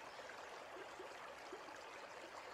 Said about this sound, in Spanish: El agua es la protagonista de este jardín botánico. El sonido del agua discurriendo por las distintas acequias, salvando distintos desniveles, armoniza con la exuberancia de la vegetación.